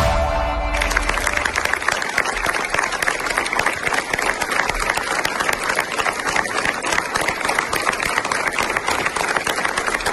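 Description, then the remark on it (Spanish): Sustained applause from a large crowd at the funeral of a 35-year-old volunteer who died fighting a fire in the province of León, Spain, with dense, steady clapping that keeps a constant, fairly loud level for the whole stretch and no one speaking over it. “Lo que escuchan son los aplausos en el funeral de Abel”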